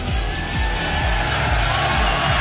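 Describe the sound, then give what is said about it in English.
A large crowd cheers and yells in a dense, steady roar that holds at an even, loud level throughout, with no single voice standing out. “Listen to that crowd!”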